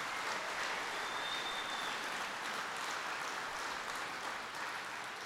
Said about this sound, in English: And even Terry's clapping about that one, but he was fighting very hard for that, believe me.